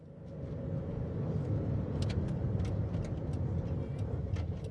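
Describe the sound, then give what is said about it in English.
A steady engine rumble of cars arriving on a crowded drive at Mallory Towers, idling or rolling in slowly, with sharp scattered clicks and taps over the top. No voices are heard. “The drive was crowded with cars, and girls of all ages were rushing about, carrying bags and lacrosse sticks.”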